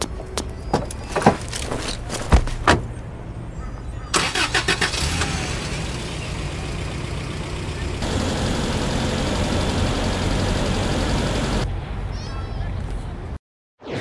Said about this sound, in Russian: Джип Бориса подъезжает к шикарному ресторану.